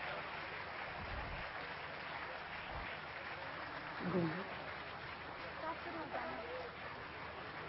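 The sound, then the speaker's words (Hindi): A large crowd claps loudly and steadily for several seconds at the inauguration of Jagdamba Bhawan, a dense crackle of many hands, with some murmuring voices mixed into the applause. “आपकी तालियां इतनी जोरदार गूंजे कि वतन में बाबा के पास भी वो आवाज पहुंच जाए।”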